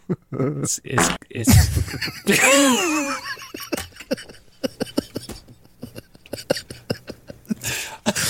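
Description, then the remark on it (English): A short, squeaky fart sound with a wobbling pitch plays once, loud, then breaks into stretches of choppy giggling and snickering. “It's the perfect fart.”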